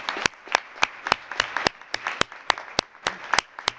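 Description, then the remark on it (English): An audience claps in honor of someone, with a steady run of sharp, evenly spaced claps standing out over a softer wash of scattered applause. No one speaks. “And may I ask the floor to John in a big clap in your favor.”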